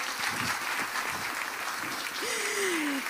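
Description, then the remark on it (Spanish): An audience claps steadily for a group of women present, a dense, bright wash of many hands filling the whole clip at a fairly loud, even level, with a faint whistle-like tone gliding downward near the end. “Así que un aplauso para todas ellas.”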